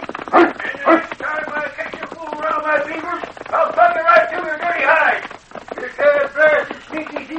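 King, Sergeant Preston's big lead sled dog, yelps and whimpers in a run of loud, high-pitched barks and drawn-out whines, with brief pauses between the bursts.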